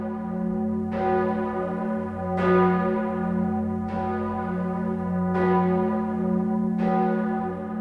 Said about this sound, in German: Am 14. Dezember 1968 läuteten die Glocken für den Theologen Karl Barth. Im Basler Münster fand die Abdankungsfeier statt, die Schweizer Radio DRS live übertrug.